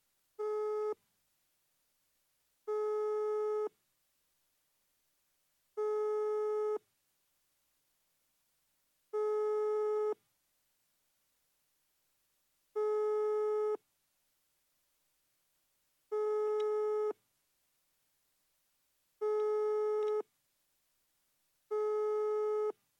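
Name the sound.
telephone call tone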